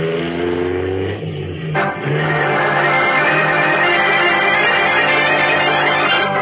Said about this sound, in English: Pressing the accelerator down to the floor, Batman sends his powerful car hurtling back over the twisting road in pursuit of Big George Latimer.